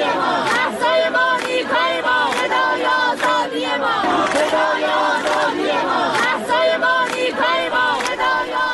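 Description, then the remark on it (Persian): A large crowd of University of Tehran students in Iran chants protest slogans in unison, voices rising and falling in a steady, repeated rhythm. The shouting stays loud and dense throughout, with no single speaker standing out. “بشنویم شعار دانشجویان دانشگاه تهران رو”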